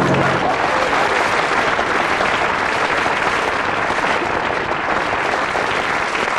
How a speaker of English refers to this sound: The audience, having reached the stage where they'll clap anything, we'll see how they respond to you.